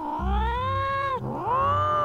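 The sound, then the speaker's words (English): An exploding-cat sound effect: a cat yowls loudly, two long, wavering caterwauls back to back, with a steady low rumble running underneath. “I have the exploding cat.”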